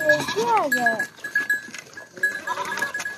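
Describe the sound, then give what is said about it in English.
A goat bleats loudly, one wavering cry lasting about a second, as children herd a couple of goats out of a village in Dikundi province, recorded on a cell phone video, followed by quieter outdoor noise with faint voices and a steady high tone in the background. “It shows kids herding a couple of goats out of a village.”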